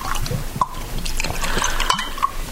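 Liquid is poured into glasses, a steady gurgling splash broken by a few bright clinks of glass, with no one speaking.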